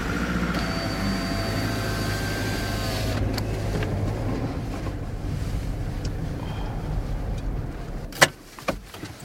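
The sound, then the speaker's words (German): A steady low rumble of a car engine heard from inside the vehicle, with a faint whining tone early on and a couple of sharp knocks near the end. “Im Auto sitzen, oder?”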